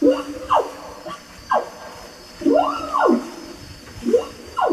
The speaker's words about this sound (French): Et maintenant, on va entendre l'orang-outan, le mâle. Alors, le mâle, il chante pas, le mâle. Il crie, il a un cri dans la forêt. Et il chante pas seulement le matin. On peut l'entendre à 10h, on peut l'entendre à midi.